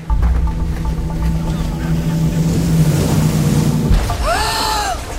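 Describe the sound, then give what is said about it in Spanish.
A motorboat engine drones loudly and steadily over rushing ocean water off a beach, then drops away near the end as a short, rising and falling voice-like cry cuts in. “¿A qué bote chocó?”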